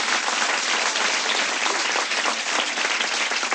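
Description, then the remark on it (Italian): An audience applauds steadily for a group of young students, a dense wash of many hands clapping at an even loudness from start to finish, with no voices standing out. “Bel applauso per questi ragazzi che studiano e poi vengono qui a fare queste cagate.”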